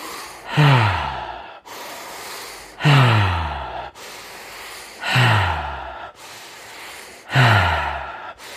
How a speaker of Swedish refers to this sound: Och se till att vi andas med känsla. Hur känns det i kroppen? Som en fin våg från magen och bröstet.